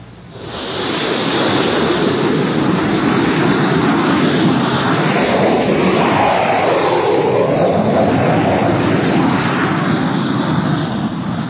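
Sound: jet fighters taking off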